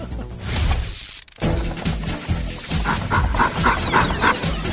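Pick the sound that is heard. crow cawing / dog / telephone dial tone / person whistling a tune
dog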